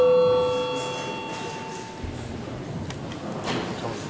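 parliament chamber bell ringing

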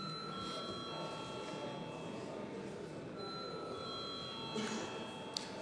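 parliament chamber bell ringing

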